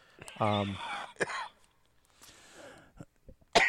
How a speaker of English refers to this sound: Sorry, I got the cough there. It must be that Coca-Cola, you know?